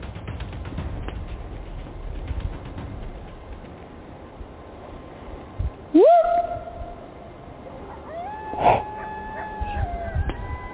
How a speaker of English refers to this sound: I think that's coyotes.